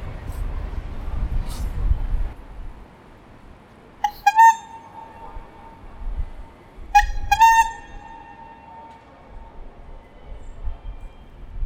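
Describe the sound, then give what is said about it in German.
A trial honk of a horn: two short, loud honks about three seconds apart, each a bright tonal blast with a lingering echo, over a faint low background rumble. “So, jetzt schauen wir, ob mein Hupenversuch hier klappt.”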